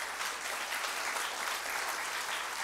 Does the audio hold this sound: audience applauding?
yes